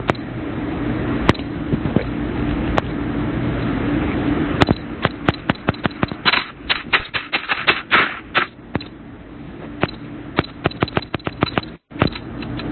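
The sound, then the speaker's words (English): Rapid, irregular clacking of keys typed hard on a keyboard, with bursts of clustered strikes over a steady low hum and no talking. “Somebody is noisily typing.”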